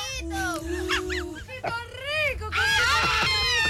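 Several people shout and yell at once in loud, high-pitched, overlapping voices, a raucous crowd clamor that carries on without pause and swells louder near the end.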